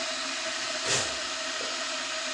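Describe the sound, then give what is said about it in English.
A kettle heating water for a midnight cup of tea gives a steady hiss that fills the whole stretch, with a faint constant tone underneath and one brief louder rush of steam partway through. “Okay, Kettle. Keep up the good work. I'm going to get a cup.”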